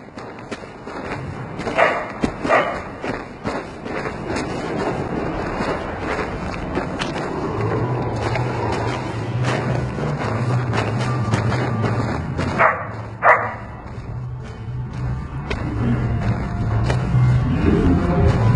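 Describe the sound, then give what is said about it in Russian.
A dog barks a few scattered times outdoors, mixed with footsteps and a steady low rumble of passing traffic, with no one speaking. “Собака пришла сюда, и мы пришли с ней.”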